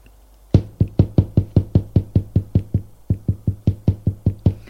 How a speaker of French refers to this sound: Par un bruit. L'on frappe à la porte.